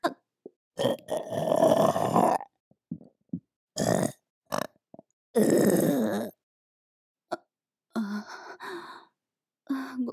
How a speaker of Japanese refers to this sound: そんな下品なゲップするのが悪い？